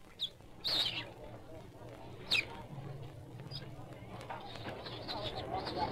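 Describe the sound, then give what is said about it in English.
Rhesus monkeys in a cage chatter in shrill, squeaky bursts, with a few louder yelps standing out over a constant noisy background of overlapping calls. “Here's a cage of chattering rhesus monkeys.”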